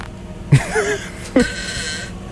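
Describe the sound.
Two buzzy mouth fart noises blown with the lips to mock a rock band's music, the first longer and wavering in pitch, the second shorter, separated by a brief pause with no speech.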